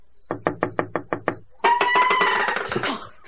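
Seven crisp, evenly spaced knocks rap on the door of a small house in a forest in the darkness, followed immediately by a longer, louder raspy sound that fills the rest of the moment. No one speaks.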